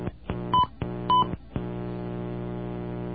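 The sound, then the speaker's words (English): Two short, bright telephone keypad tones beep a beat apart amid a few sharp button clicks as a campus telephone number is entered into an automated phone system, followed by a steady low electronic hum. No voices. “Let's see, I'm on campus, so I'll enter my campus number.”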